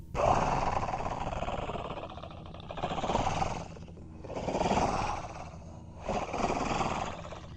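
Heavy, rasping creature breaths heard through a shut steel door rise and fall in four slow, growly swells, each separated by a short pause, fairly loud with no talking.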